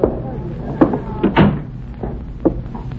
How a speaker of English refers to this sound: Shut the door.